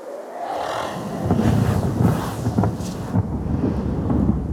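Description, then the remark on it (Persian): A loud, sustained rumble of thunder rolls through, with gusting storm wind roaring over it and a few sharper cracks and surges as the tempest builds. “رعدی زد و طوفان شد و باد اومد.”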